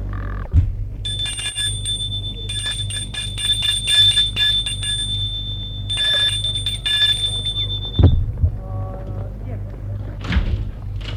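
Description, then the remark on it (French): A doorbell rings at the door of a small, walled country house in a wood, in two long, shrill electric bursts, followed by a couple of dull thuds like a door, all over a steady low hum. “Danfort va sonner à la porte de la maison.”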